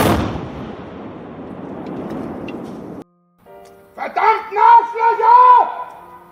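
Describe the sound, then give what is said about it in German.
A firecracker thrown into a yard goes off with one sharp, loud bang that trails into roughly three seconds of rumbling noise; after a brief silence, a person shouts in a raised, agitated voice. “An diesem Tag warfen ihm Hater auch einen Feuerwerkskörper auf den Hof und hielten dies in einem Video fest.”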